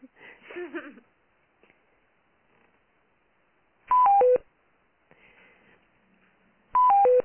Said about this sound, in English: I also have to apologize for the entry and exit tones, folks. I thought this was our line that didn't have them. So next time, we will get that squared away.